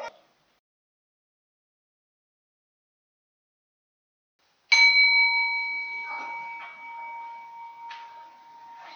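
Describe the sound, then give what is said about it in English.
A long silence of about two minutes, then a single bell is struck to close it before a musical interlude, ringing out clearly, its bright, steady tone sustaining and slowly fading over several seconds. “You'll hear a bell, and the interlude will follow.”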